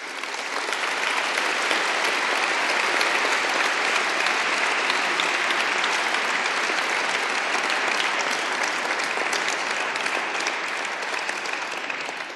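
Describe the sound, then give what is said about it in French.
Sustained applause from a large audience for two prize laureates, a dense steady clatter of many hands clapping at an even, fairly loud level for the whole stretch, with no talking over it. “C'est une alternative, mais il vaut mieux cumuler les exigences et l'œuvre de nos deux lauréats ici présents, l'un à côté de l'autre, méritent bien qu'on leur demande, en plus de leur œuvre, de se lever et puis aux autres de les applaudir.”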